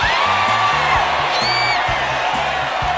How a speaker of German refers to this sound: Denn die Dekauer und Speckener haben allen Grund zum Jubeln. Leute, ich habe gesagt, jubeln.